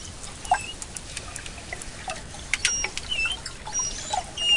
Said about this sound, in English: That's what manatees sound like when they're communicating in the warm,